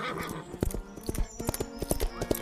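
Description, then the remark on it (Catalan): A king's page rides an imposing horse at a gallop toward the palace: quick, uneven rhythm of sharp clip-clop hoof strikes, steady and fairly loud across the whole clip, with no voices over them. “Galopant cap a palau, va enfilar el camí llarg i estret que partia el bosc com una clenxa.”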